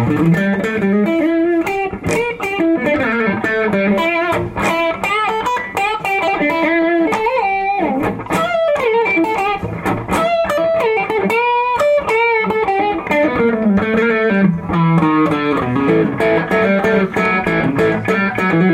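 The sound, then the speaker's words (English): An electric guitar played with both pickups, its overdriven, slightly distorted tone coming from an overdrive pedal with the amp kept soft, running through continuous melodic lines and chords for the whole stretch, loud with no talking. “Let's hear this with the two pickups together.”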